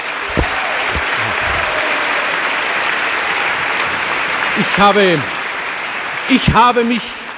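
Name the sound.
audience applause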